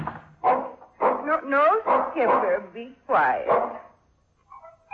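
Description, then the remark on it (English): A dog, Skipper, a poor old dog, barks in a quick run of several yappy, tonal barks over about four seconds, then falls mostly quiet, with only a faint sound at the very end. “No, Skipper, be quiet. He knows, poor old dog.”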